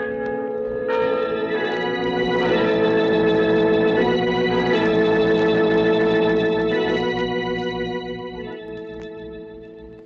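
bells ringing

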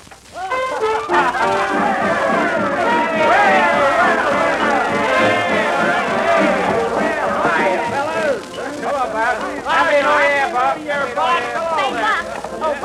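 crowd chatter

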